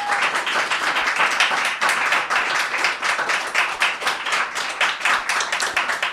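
An audience applauds a guest during a show, steadily for about six seconds, many hands clapping in a dense, sustained wash at an even loudness, with no one speaking over it.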